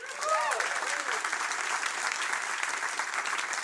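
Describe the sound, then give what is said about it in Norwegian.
A crowd breaks into sustained applause welcoming a particle physicist and AI expert, with a few whoops and cheers rising at the start before settling into steady, loud clapping that carries on throughout. “En stor applaus til partikkelfysiker og AI-ekspert”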